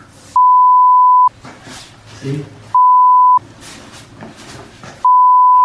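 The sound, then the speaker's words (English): Three loud, steady censor bleeps, each lasting most of a second, cut sharply into a stretch of speech to cover swear words, with people talking in the gaps between them. “When you have to beep them all.”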